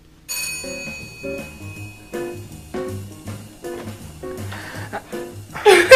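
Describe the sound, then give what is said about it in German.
A doorbell rings with a repeating melodic chime, its bright tones sounding over and over for several seconds, fairly loud, ending in a brief burst of rustling noise. “Ich muss ja zu Hause sein, falls irgendein Bringdienst klingelt.”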